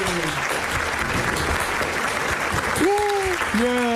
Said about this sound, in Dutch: Oh, ja, we zitten hier gewoon echt te klappen voor je.